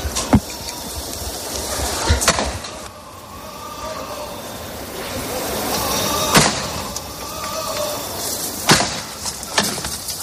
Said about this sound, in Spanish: Tres toques de martillo y el paso en lo alto.